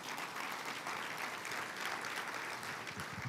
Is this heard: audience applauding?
yes